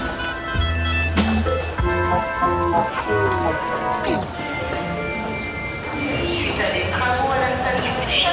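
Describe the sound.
Busy Bastille station ambience in the Paris metro with a train rumbling in, steady low mechanical noise and squealing tones, while voices talk and echo throughout the platform.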